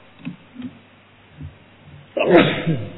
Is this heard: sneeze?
yes